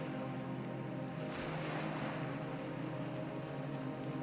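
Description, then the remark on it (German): Steady roar of ocean surf a few meters below a small rock ledge at night, with a louder wave surge swelling around the middle, over a constant wash of wind; no voices. “Sie führt uns auf einen kleinen Felsvorsprung, nur wenige Meter über dem rauschenden Ozean.”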